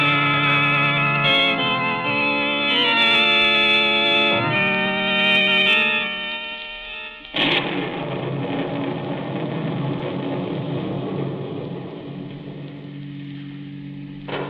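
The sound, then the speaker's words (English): Sustained musical tones play for several seconds, then a sudden crash breaks into a loud, steady roar of rain and low rumbling thunder that carries on to the end. “What a thunderstorm.”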